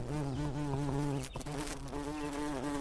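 A dense, steady drone of hundreds of bees of many kinds, including bumblebees, honeybees, wasps and yellow jackets, buzzing together outside a home in New Hampshire: a continuous layered hum with slight wavering pitches and a brief dip partway through.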